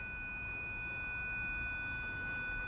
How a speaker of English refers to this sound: That's the school bell. That's what it sounded like, a piercing ringing in my ear.